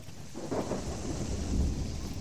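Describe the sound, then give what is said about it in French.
Torrential rain pours down in a steady hiss during a sudden violent storm while low, rolling thunder rumbles through, swelling louder toward the end of the stretch, with no voices present. “Une violente tempête se déchaîna subitement, une pluie torrentielle fondit sur les voyageurs et remplit d'eau les ornières du chemin.”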